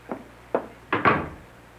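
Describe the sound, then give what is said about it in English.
A door being opened and shut as a porter arrives with a package, heard as a short series of wooden clunks and thuds, the last two in quick succession, with no voices. “Someone's at my door.”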